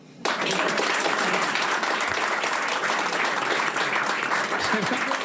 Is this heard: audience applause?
yes